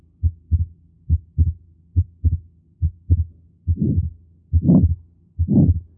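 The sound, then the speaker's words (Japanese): Heartbeat of pulmonary stenosis at auscultation point 21: steady low lub-dub thumps of the first and second heart sounds with a split second sound, then a harsh, rasping early systolic murmur that swells between the sounds in the last few beats, with no voices. “荒々しい収集、早期の雑音が聞こえてきました。”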